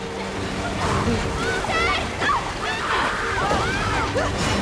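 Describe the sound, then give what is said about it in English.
Water from a giant faucet gushes and splashes steadily into a tank, a loud, continuous churning roar with sloshing surges and faint gasping, voice-like sounds mixed in. “The giant faucet continues spewing more and more water into the tank.”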